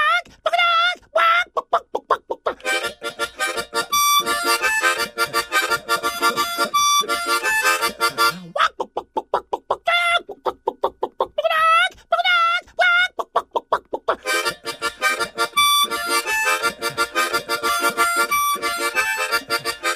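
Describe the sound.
A lively chicken polka played on a bright, reedy instrument with rapid, repeated phrases that mimic a rooster's crowing and clucking, played continuously with brief pauses between bursts.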